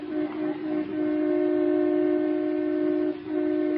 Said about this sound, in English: Listen to that. Aren't you going to do something, Unky? Oh, let him honk, the big goose.